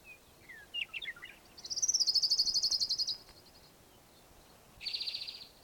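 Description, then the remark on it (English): A ground warbler sings a high, rapid trill of evenly pulsed notes lasting over a second, preceded by a few scattered chips and followed by a shorter burst of the same trill. “Ground warbler singing in the background here.”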